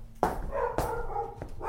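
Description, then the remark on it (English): A dog named Bessie barks, about four sharp barks at uneven intervals, with drawn-out, whiny tones ringing between them. No one speaks. “She barked and howled and complained and demanded.”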